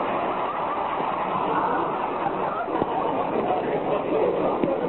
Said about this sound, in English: Another car wants to pass us, Rochester. Okay, boss, let's look nonchalant. Never mind, let him go, the fool.